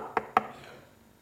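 Two sharp knocks on a door in quick succession, loud, each with a brief hollow ring, then a faint tail with no voices.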